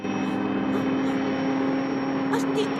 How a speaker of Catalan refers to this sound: Els dos helicòpters baixen cap a terra.